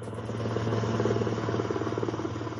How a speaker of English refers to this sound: The helicopter yesterday evening that brought U.S. President Donald Trump back to the White House after 72 hours of hospitalization for the deadly COVID-19 virus.